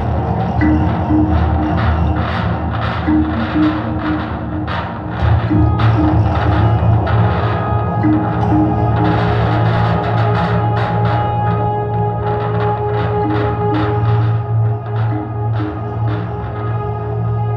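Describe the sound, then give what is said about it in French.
Dense, loud wash of amplified percussion run through guitar effect pedals: rapid hits smeared by delay echo, reverb and distortion over a steady low drone, continuous throughout with no voices. “Tout est amplifié et relié à des pédales d'effet de guitare, ce qui transforme les sons, des délais qui répètent le son, des réverbérations, des distorsions.”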